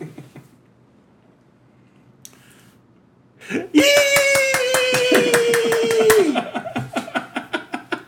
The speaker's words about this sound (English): Now, what you can't see on the microphone is me spreading my fingers wide and clapping like that, in that crazy, like, that crazy intersection of 5-year-old child and exuberant gay dude.